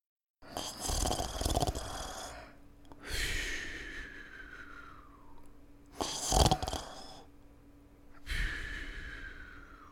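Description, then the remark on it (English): A father snores in his sleep, lying next to his son: four long, raspy snores in a slow, steady rhythm, each rising and then trailing off, with no talking. “I closed my eyes and his snores floated in the air and settled on my chest like wool.”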